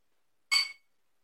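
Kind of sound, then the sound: household object, glasses clinking together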